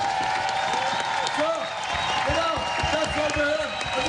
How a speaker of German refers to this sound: Statt Lederhosen und zünftiger Musi gab es gestern Gags und viel Applaus.